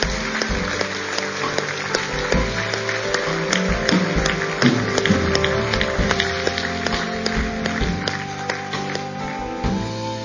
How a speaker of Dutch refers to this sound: Zullen we mensen applaus geven die de keuze hebben gemaakt?